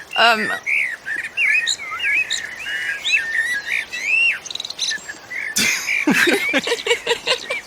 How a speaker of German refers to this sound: Oh, hör mal! Gar nicht so einfach. Was das wohl für ein Vogel war?